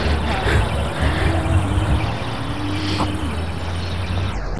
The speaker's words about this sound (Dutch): De auto is gearriveerd met trommels en andere kabaal.